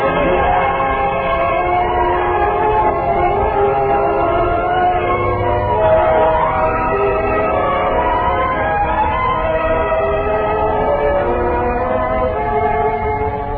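A train runs steadily along the rails, a loud, continuous rumble layered with sustained ringing, whistling tones that hold without pause for the whole stretch, with no voices.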